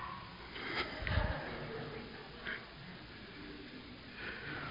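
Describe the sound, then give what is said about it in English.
A person imitates a snort of someone jolting awake from snoring: a loud, rough nasal burst near the start, followed by a couple of softer sniffing breaths, with no talking. “You ever snore, you woke yourself up?”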